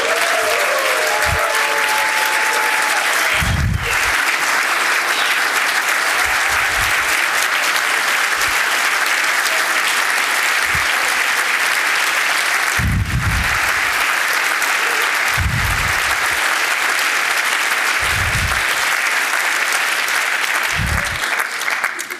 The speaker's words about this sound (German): Liebe Ricarda Lang, Sie kommen aus Berlin. Herzlich willkommen. Der Weg ist jetzt noch kürzer und Sie haben am 17. Januar Geburtstag gehabt. Sie hören das gleich am Applaus. Da ist auch ein bisschen Gratulation noch mit bei.